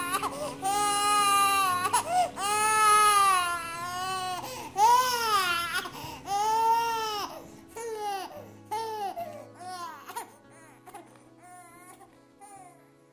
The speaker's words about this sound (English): I can hear a sound. I can hear little babies cry again.